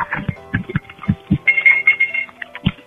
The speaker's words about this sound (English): I'm just going to slam the phone around on my counter randomly and that's great.